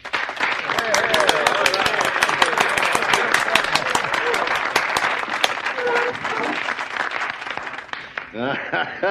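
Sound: round of applause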